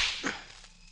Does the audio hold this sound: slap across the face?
yes